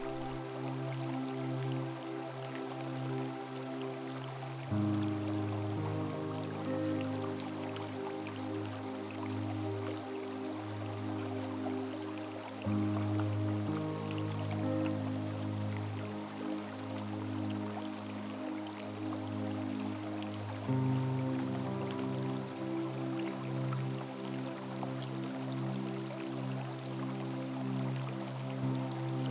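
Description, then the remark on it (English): A babbling brook flows steadily throughout, a continuous watery trickle blended with soft, sustained musical chords that shift slowly every few seconds. No one speaks. “From the other side of the brook, an animal has come to drink.”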